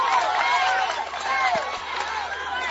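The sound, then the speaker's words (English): A baseball crowd erupts in cheers as Washington County's leading run is batted in on an RBI single into left field, a dense, sustained roar of many overlapping shouting voices that stays loud and steady throughout, with a couple of dull thumps partway through. “And this crowd has erupted.”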